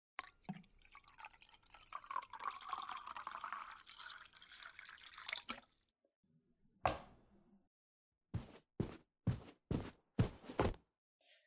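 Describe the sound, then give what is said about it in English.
Water pours steadily for several seconds, then stops. After a short pause, a single knock is followed by five sharp, evenly spaced footsteps, with no one talking. “Here's your water, by the way.”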